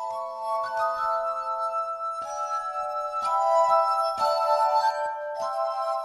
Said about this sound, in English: piano mazurka by 18th century composer Karol Szymanowski, which Anna and Arik adapted for glass